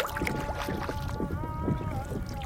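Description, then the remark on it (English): Canoe paddling on open water during a 2005 tribal canoe journey down the Pacific coast of the Northwest: repeated splashy strokes and sloshing, with a steady sustained tone droning underneath and a breezy outdoor wash throughout. “producer Jesse Boggs paddled with them on their tribal journey”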